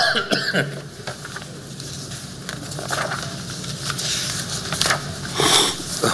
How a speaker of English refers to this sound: Y'all, excuse me for the sniffles.